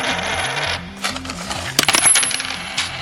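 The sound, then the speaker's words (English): A coin drops and rattles along a metal track, clinking and tumbling in quick bursts over a busy, droning arcade-machine hum, with a brighter cluster of clinks near the end. “okay, and just let us know when you want to release that coin.”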